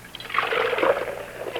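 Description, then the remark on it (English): Water pours steadily for about a second and a half, a continuous splashing trickle with no voices over it. “Water. Water?”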